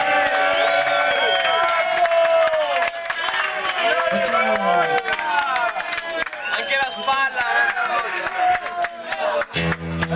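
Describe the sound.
A crowd applauds a band after it has been playing for an hour and a half, clapping steadily for about ten seconds, dense clapping mixed with cheers and shouting voices, loud throughout and thinning slightly near the end.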